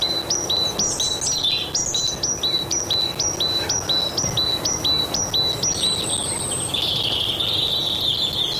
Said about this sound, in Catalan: Mallarenga carbonera. Parus major. Ocell que habita als boscos totes les estacions de l'any.